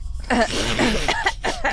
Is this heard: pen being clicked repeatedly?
no